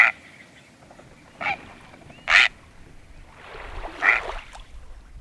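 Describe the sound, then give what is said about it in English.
A great blue heron gives four harsh, croaking squawks spaced irregularly, the last one longer and raspier, loud with no one talking. “That prehistoric sounding call is from a great blue heron.”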